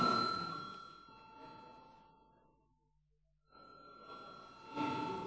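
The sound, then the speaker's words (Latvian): A voting call bell in the Saeima, Latvia's parliament, rings before deputies vote on a proposal, a bright, sustained electric tone, stopping briefly near the middle before ringing again, with faint room murmur underneath. “Lūdzu zvanu.”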